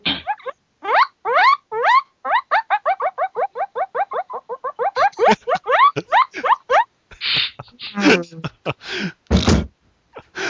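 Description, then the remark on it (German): High, rapid guinea pig squeaks repeat in quick rising chirps, a long steady run of them, followed by scattered breathy bursts and a few sharper squeals toward the end. “Sonst würden eventuell auch mehr Schweinchengeräusche auf einmal kommen.”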